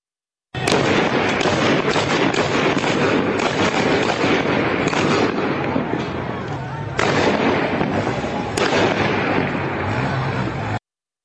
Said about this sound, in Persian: بخشی از ویدئویی که در اون صدای تیراندازی در ایزه شنیده میشه این رو هم گوش کنیم.